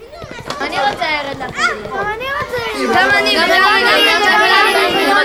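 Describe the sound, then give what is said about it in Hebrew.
A lively, growing procession of children walking through a small town, chattering, calling out and singing songs of joy and faith together, their overlapping high voices swelling louder as the line lengthens, with cheerful shouts and singsong cries. “בצדי הדרך חלונות הבתים נפתחים לרווחה, יהודים מחייכים זה לזה, והנה שיירת הילדים מתארכת. אה, נור אמונה, איזה שמחה בעיירה.”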